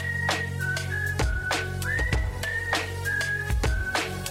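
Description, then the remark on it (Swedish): A bright whistled melody of held notes and short upward slides rides over a steady beat with thumping drums and a deep bass line, clear and upfront throughout. “Du har hört den förut så du visslar med mig ba.”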